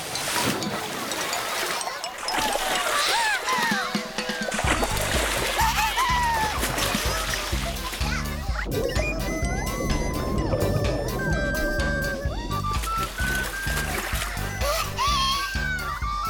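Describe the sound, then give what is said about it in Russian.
Water splashes and sloshes steadily as people climb one after another into a swimming pool, a busy churning that continues throughout, with faint voices and other background sounds mixed in. “Так, забирайтесь в воду. Я первая. Вторая.”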